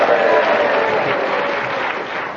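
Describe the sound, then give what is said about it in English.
Sustained audience applause, a dense wash of many hands clapping at a steady loud level, tapering slightly toward the end with no distinct individual claps standing out. “I got a bigger round of applause when they were rude about me.”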